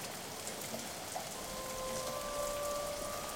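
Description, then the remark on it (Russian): Soft, steady rain falls continuously as a fine, lingering drizzle, a gentle even hiss of drops with no pauses, faint, with a thin tonal hum running quietly beneath it. “Тихий затяжной дождь, назойливый, как дурные мысли или сомнения, как новая идея или тайна.”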